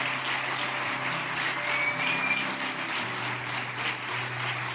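An audience applauds steadily, a dense, sustained wash of many hands clapping at once with no pauses, staying at an even, moderately loud level throughout, giving the Lord a strong round of applause for each of the people just prayed for.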